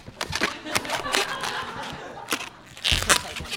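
An old rubber balloon squeaking and rubbing as it is twisted into a Snoopy balloon animal, in a run of irregular scratchy bursts that pause briefly before a louder final stretch.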